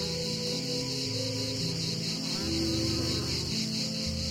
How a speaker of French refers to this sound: Voilà le paysage sonore de l'été par excellence. Lorsque la cigale grise chante, on l'associe à la pinède, aux oliviers, à la chaleur.